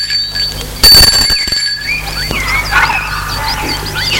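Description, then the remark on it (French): A doorbell at the door of a house on a mother's property rings once in a loud, buzzy burst lasting under a second, then cuts off, leaving a steady background of high chirping and faint outdoor hum. “Sonne à la porte.”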